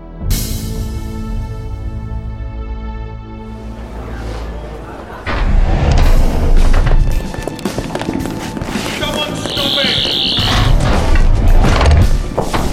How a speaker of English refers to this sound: Honestly, what is the woman doing? Now's hardly the time to start shifting furniture.